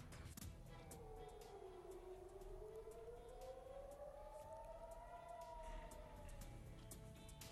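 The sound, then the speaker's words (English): Civil defense air raid sirens blare steadily in Tel Aviv after missiles are fired from Yemen, a loud wailing tone slowly rising and falling in pitch over a constant wash of outdoor noise, with no voices heard. “Sirens blare in Tel Aviv and several other cities across the Israeli-occupied territories after missiles are fired from Yemen.”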